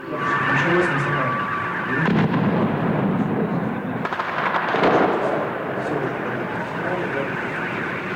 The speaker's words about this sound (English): The hostage crisis in Moscow ended at dawn Saturday with explosions, gunfire, and the wailing of ambulance sirens as Russian special forces stormed a theater where Chechen militants had just killed two of more than 700 hostages